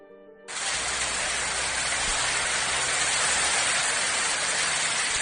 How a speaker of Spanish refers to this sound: Es la lluvia que ha provocado la conocida como barra, la borrasca, que desde hace días azota muchos lugares de España y que poco a poco ha empezado a remitir.